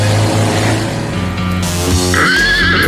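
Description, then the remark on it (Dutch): A horse neighs loudly, a long quavering whinny that rises and wavers over a steady low rumble in the background, with no talking. “Nou, dan gaat hij op zijn paard, hoor.”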